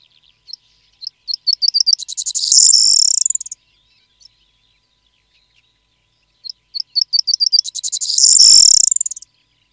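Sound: corn bunting song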